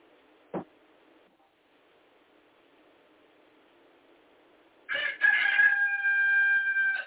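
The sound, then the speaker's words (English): A rooster crows loudly, one long drawn-out cock-a-doodle-doo near the end, after a few seconds of quiet background with a single brief knock early on. “You all excuse that rooster.”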